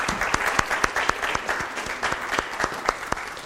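A crowd claps steadily, dense overlapping hand claps with sharp individual cracks poking out of a continuous wash, fairly loud and sustained with no voices over it.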